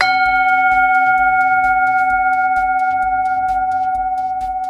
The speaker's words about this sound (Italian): Come avete sentito, è appena suonata la campana tibetana, per una volta non sulla mia testa